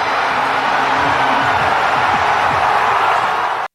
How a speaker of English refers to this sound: Wow, that crowd is amazing.